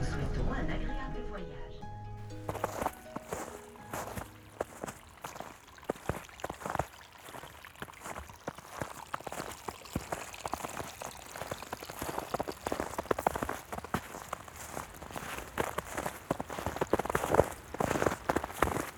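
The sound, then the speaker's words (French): Snow crunches underfoot amid lapping, trickling water on a mountain hike, a dense, irregular crackle of small crisp snaps that runs steadily after a brief tonal opening and grows slightly louder toward the end. “La neige craque au milieu des clapotis.”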